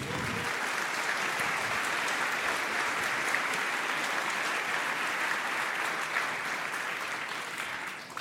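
Sustained applause from a large audience, a dense wash of many hands clapping at a steady, even loudness for about eight seconds, tapering slightly at the end.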